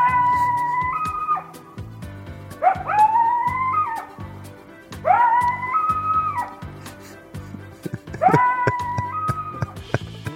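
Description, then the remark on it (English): Coyotes howl and yip in four rising, wavering bursts, several voices overlapping, over a steady low rhythmic backing. No one speaks. “Let's talk about coyotes.”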